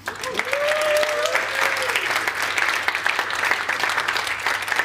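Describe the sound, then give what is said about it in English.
A crowd breaks into steady applause for couples married during the pandemic, dense clapping that holds at an even, loud level for several seconds, with a brief voice or whistle-like tone rising over it near the start. “In fact, can we give a round of applause for our pandemic weddings?”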